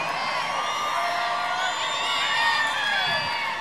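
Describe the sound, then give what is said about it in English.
A Halloween crowd cheers and whoops steadily for a few seconds, many voices overlapping in a loud, sustained burst with high shouts rising above the din. “Oh, it's this Halloween crowd that's come in here.”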